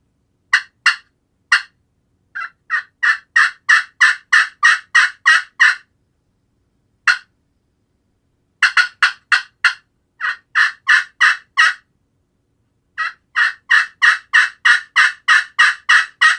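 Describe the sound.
Loud turkey hen calling in aggressive bursts: rapid runs of sharp yelps and choppy cuts, pausing briefly between sequences, with no talking; calling sequences demonstrated to get a bird fired up.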